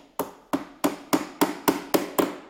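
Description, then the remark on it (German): Steady hammering in a beach chair (Strandkorb) workshop on the Baltic coast in Schleswig-Holstein, Germany, where several hundred beach chairs are being repaired for the new season: eight sharp, ringing blows struck at an even, brisk pace, each one loud and bright, with no voices present. “Wir haben Markus erst einmal in seiner Werkstatt besucht.”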